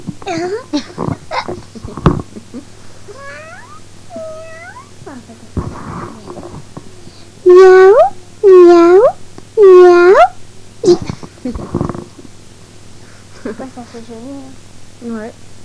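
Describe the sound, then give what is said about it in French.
A cat lets out three loud, drawn-out meows in close succession, with softer mewing and some people talking before and after. “Oh, le chat, il s'est enfui.”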